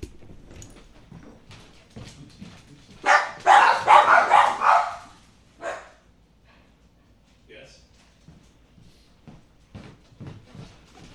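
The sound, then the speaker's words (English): A loud, rapid burst of dogs barking lasts a couple of seconds, with overlapping yaps. Quieter talking comes before and after the barking. “Dogs are guarding the thermostat, among the many things they do.”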